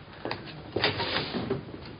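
door closing

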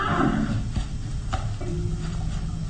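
horse neighing

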